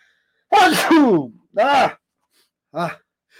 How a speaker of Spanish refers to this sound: Ay Dios, deme un segundito, voy a estornudar.